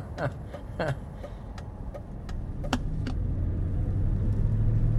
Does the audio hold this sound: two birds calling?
no